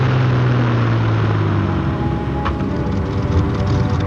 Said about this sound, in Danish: Og lige så brummende og usynlige som de kom, vender de engelske bombefly hjem igen, inden solen er nået at stå op.